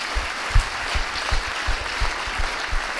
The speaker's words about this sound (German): Wir können einfach mal klatschen für die Leute, die auch gearbeitet haben.